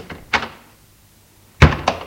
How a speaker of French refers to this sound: Enfin, la porte s'ouvrit.